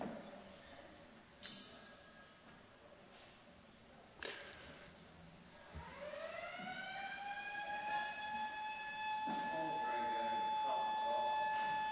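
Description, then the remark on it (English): A fire alarm siren winds up partway through, its tone rising steeply and then holding a loud, steady wail to the end, after a few scattered knocks and faint background voices. “This is our fire alarm, testing or real.”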